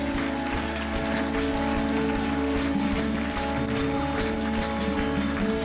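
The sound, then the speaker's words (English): A church audience applauds people as they go, in a dense, steady wash of clapping that holds evenly for about six seconds, with sustained musical tones running underneath. “Church, can we give them a great round of applause as they go?”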